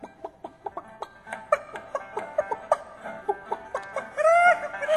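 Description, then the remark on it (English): Chickens cluck in a steady run of short, clipped notes, then one breaks into a louder, drawn-out squawk at the end. “The chickens hopped over the fence. They hopped down the road. They hop inside the store.”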